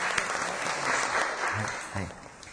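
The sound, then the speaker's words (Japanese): An audience claps steadily for a couple of seconds to welcome visiting international students from Nagasaki University of Foreign Studies, a dense wash of overlapping hand claps, with a brief voice speaking over the applause near the end. “皆さん大きな拍手を持って歓迎しましょう。”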